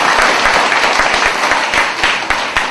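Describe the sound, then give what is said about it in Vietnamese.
A loud round of applause from a group of children at their teacher's request, dense overlapping claps forming a steady wash of sound that holds for the whole stretch, with no voices. “Cô cho một tràng vỗ tay thật lớn để khen thật trung thực.”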